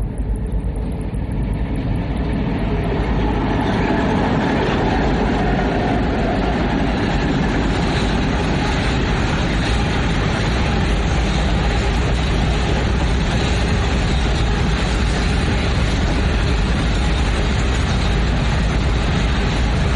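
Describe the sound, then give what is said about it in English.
A long coal train rumbles past in a steady, loud roar of rolling wagons with faint rhythmic clatter that continues unbroken for the whole stretch. The train carries coal to Port Augusta Power Station. “it's one of the longest trains in the world.”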